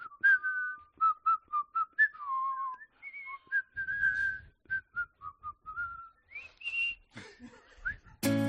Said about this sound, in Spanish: Mira cómo lo silban.